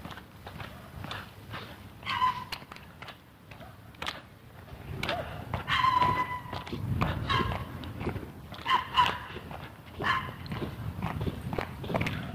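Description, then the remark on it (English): A happy little dog walks, its quick, light steps pattering steadily, with a few brief high yips or whines mixed in along the way. “Happy little dog walking over there.”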